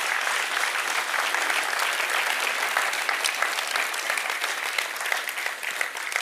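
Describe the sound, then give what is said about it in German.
An audience claps steadily for several seconds as a thank-you, a dense, even wash of many hands with no break and no voices standing out. “Kurzen Applaus euch als Danke vielmals.”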